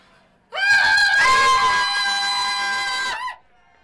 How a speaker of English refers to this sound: What's all the screaming about?